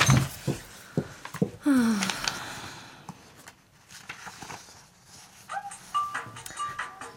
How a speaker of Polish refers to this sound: Nieznośny sygnał. Gdzież jest ten jej telefon?